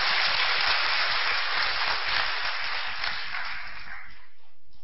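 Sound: audience clapping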